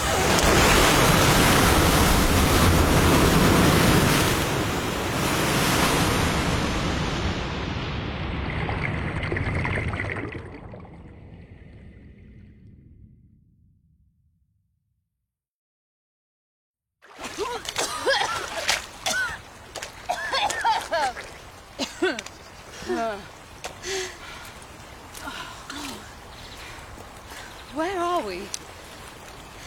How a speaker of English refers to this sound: Oh. Do you hear that? What is it? Oh. It's water. What? From where?